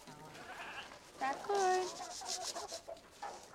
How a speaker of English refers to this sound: Sarah jogs back to the chicken coop. She goes inside and checks for eggs. Sarah holds one of the chickens.